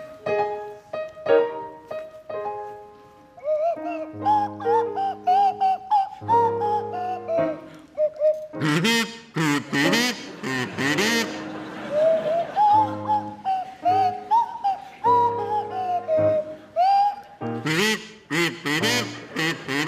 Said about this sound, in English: provide us with a rendition of Titwillow, featuring Jeremy Hardy on the kazoo and Tim Brooke-Taylor at the Swanee Whistle